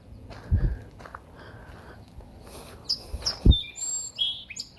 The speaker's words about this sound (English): Did you share that song, Sparrow? Let's see if it'll sing for us again. Beautiful.